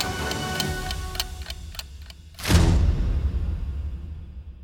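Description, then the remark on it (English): A clock ticks steadily at a brisk, even pace for about two seconds, then a loud whooshing rush cuts in and settles into a low, rumbling drone. “That clock noise is probably a good reminder that we won't be seeing Captain Hook going on TikTok anytime soon.”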